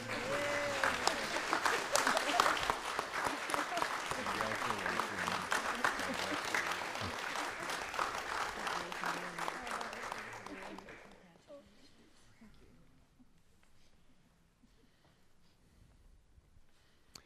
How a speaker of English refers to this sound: And I don't think it'd be inappropriate that you can respond with applause.